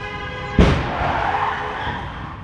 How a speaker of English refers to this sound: Another car crash from the same location on April 9, 2017.